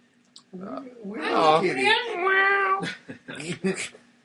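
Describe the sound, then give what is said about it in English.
A person imitates a cat, letting out a long, wavering meow, fairly loud, followed by a few shorter, clipped vocal sounds. “It's a little kitty.”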